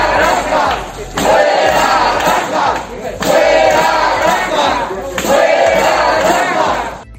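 protesters shouting

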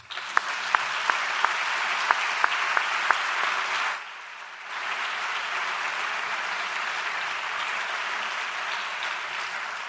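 audience applause

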